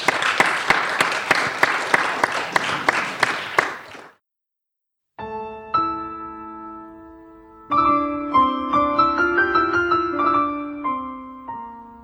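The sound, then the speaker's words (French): A burst of lively audience applause for pianists fills the first few seconds, stops abruptly, and after a brief silence a piano begins playing. “En tout cas, on peut les applaudir très fort.”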